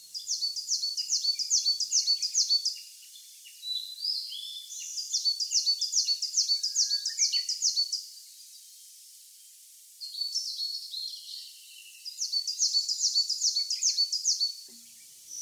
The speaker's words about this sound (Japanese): 日が昇ると雲海が広がっているのに気がつきました。小鳥たちのさえずりが雲の波間に流れていきました。